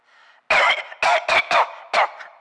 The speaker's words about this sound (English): I've coughed.